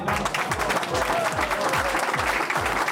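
An audience at the HDS award ceremony in South Tyrol, where the DESBAR in Villanders is named the most popular shop, applauds steadily, a dense wash of many hands clapping at an even loudness for the full length, with a faint murmur of voices mixed underneath.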